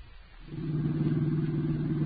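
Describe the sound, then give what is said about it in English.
A car engine hums steadily while driving out at night to the McCaffrey mansion. It starts softly, then swells within the first second into a constant low drone with a faint rattle, holding even to the end. No voices. “Margo and I were driving out to your uncle's.”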